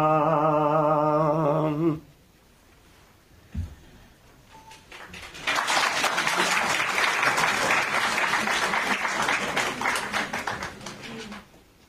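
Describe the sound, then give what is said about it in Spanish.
A sustained harmonic tone ends, a short lull with a single thump follows, then a crowd breaks into loud, steady clapping for about six seconds before tapering off. “No me aplaudan. Aplaudan al final si es que me lo merezco, ¿eh?”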